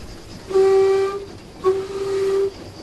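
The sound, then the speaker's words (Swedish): Two loud, steady blasts of a whistle horn, sounded by a man pulling a cord, each held about a second, with a short gap between them and faint rumbling background noise throughout. “Han sitter en annan och drar i snöre lite då och då här och tuta. Får höra en tutare du.”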